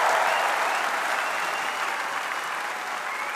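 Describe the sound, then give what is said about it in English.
Sustained applause from a large Labour Party conference audience in Brighton after Labour leader Mr. Corbyn gets onto the podium, a dense, steady wash of clapping that stays loud throughout with no voices breaking through. “And there was thunderous applause that went on for a good 5 minutes after Mr.”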